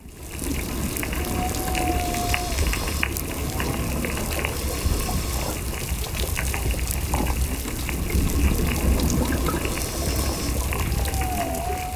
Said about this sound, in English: Scientists at the Woods Hole Oceanographic Institution recorded this reef, complete with snapping shrimp, chirping parrotfish, and whistling damselfish.